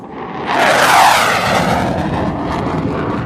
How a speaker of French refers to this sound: Ce son que vous avez peut-être entendu ces dernières heures dans le ciel guyanais est celui d'un rafale. 3 de ces avions de combat de l'armée de l'air et de l'espace sont arrivés ce lundi sur la base aérienne 367 à Matoury dans le cadre de la mission